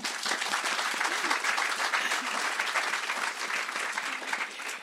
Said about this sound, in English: Let's clap